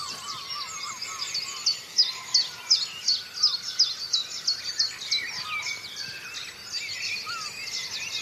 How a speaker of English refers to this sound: Right, OK, let's have a wee listen, see if we can hear the chiff-chaff.